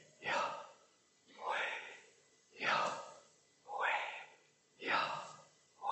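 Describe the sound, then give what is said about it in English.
Slow, audible breathing, with about five airy breaths drawn in and pushed out at a steady, even pace and no talking. “So simply, the name of God, you call in the name of God by simply breathing.”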